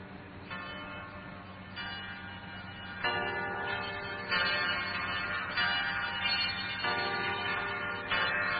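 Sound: church bells ringing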